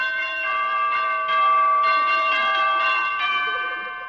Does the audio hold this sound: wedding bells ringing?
yes